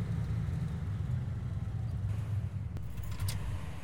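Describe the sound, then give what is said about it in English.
A car engine rumbles low and steady as the car arrives, holding a constant drone throughout, with a sharp click and a faint metallic jingle near the end. “Okay, there's their car.”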